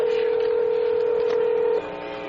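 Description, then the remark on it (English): A single steady dialing tone from a portable telephone sounds clearly for almost two seconds as the first official call from Toronto to Montreal over the CanTel network is placed, then cuts off abruptly, leaving only a faint background hiss. No voices are heard. “The first phone call officially from Toronto to Montreal over the CanTel network.”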